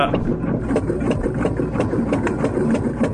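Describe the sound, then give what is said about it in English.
A small car engine starting and running, a steady, throbbing rumble with a faint rhythmic ticking layered on top; a taped recording of a car starting. “This is a little car starting. I taped your car starting.”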